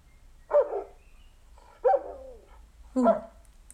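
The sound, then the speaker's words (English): Three sharp, loud dog barks spaced about a second apart, each a short gruff burst with an aggressive, angry tone, played back clearly by an Echo smart speaker when asked what sound a dog makes, over a faint low hum. “Angry doggy.”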